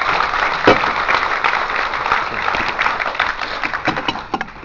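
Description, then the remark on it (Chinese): An audience at a lecture claps steadily to thank the lecturer, a dense crackle of many hands keeping an even level before thinning into a few scattered claps at the end. “真先生呢，百忙之中给我们带来这样饱含深情的讲座，让我们再次用掌声感谢真先生。”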